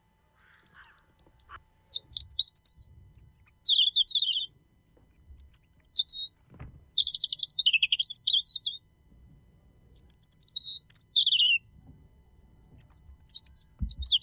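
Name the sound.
european robin singing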